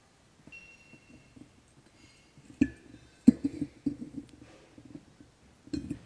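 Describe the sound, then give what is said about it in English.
Red-hot metal tongs, heated over a naked flame, clink against the neck of a glass bottle as they are clamped tightly around it to heat the glass, a handful of sharp taps at irregular intervals with faint ringing, separated by quiet pauses and no talking. “So I'm going to clamp these nice and tightly around that neck.”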